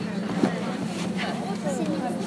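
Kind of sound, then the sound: vehicle, tractor engine running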